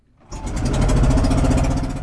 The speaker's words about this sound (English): A small boat precariously weaves its way through crashing waves. The noisy motor struggles through choppy waters. We're heading to Sarangani Island in Davao, the Philippines,